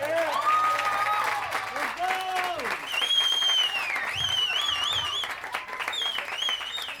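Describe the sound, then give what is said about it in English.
An audience applauds steadily for several seconds for the Latinos in Action kids. It is a dense wash of clapping mixed with high, wavering cheers and whoops that rise and fall above it. “Can we get one more round of applause for our Latinos in Action kids?”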